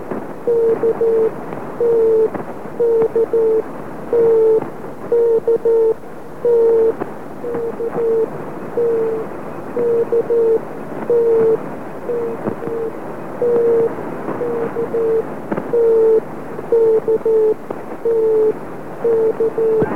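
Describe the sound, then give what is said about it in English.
A steady stream of Morse code beeps, short dots and longer dashes in a single mid-pitched tone, keyed rapidly over a constant hiss of radio static with no voices. “I immediately realised that this was the Morse code transmission that Sven had written about earlier, and quickly went home, got his letter out of the file, checked and found that it was exactly what he'd had”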